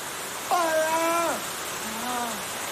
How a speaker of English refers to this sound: Water continues to fall at a steady rate, collecting on the floor. Drops splash into a glass bowl.